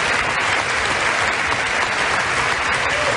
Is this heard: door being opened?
no